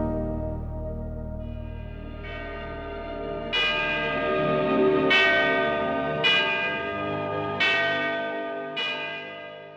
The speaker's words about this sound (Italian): Per una coincidenza incredibile, anche in uno degli altri, in italiano tradotto come Aurora, a un certo punto si sentono delle campane.